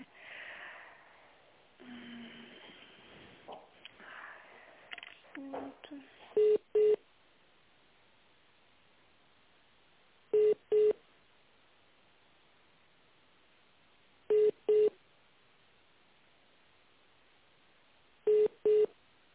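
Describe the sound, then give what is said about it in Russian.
Muffled, indistinct handling sounds and faint voices give way to telephone line tones of a busy number that cannot be connected: short double beeps repeating about every four seconds, steady and clear over a quiet, narrow-band line. “Знаете, не могу вас соединить, занят номер телефона.”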